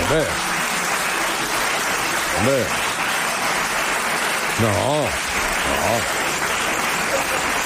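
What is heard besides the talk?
audience applause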